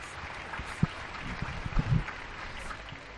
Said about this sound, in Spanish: Un día más, y van 15, España sale a aplaudir a toda la gente que está cuidando de nuestra salud.